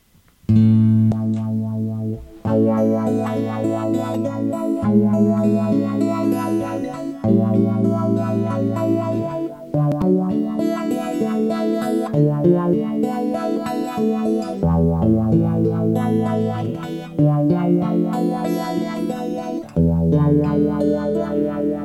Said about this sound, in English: Let's take the reverb out in the compressor now and go back to the straight sound. And we're going to use the first loop, which is the auto wah.